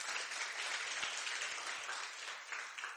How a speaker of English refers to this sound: Glory be to God. So, give a big hand clap